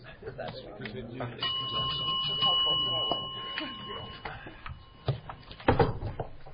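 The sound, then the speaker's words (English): A bell is rung to signal that a broadcast is now on air, ringing out with a sustained, clear metallic tone lasting a few seconds, while people talk in the background and some knocking sounds follow. “I'm just ringing the bell to make you aware that you are now on air.”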